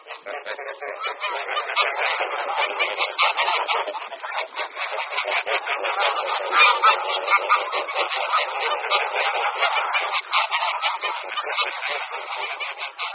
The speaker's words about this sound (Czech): Podle hlasu by si mohl někdo myslet, že jsme omylem zařadili hlas domácí husy, ale nejde o omyl. Naše divoká husa, husa velká, je totiž pramátí domácí husy a veškeré hlasové projevy mají obě husy zcela totožné.